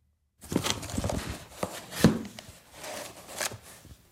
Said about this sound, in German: Ich nehme jetzt ein Buch aus der Schachtel. Das ist eine Schenkung, die wir gerade bekommen haben.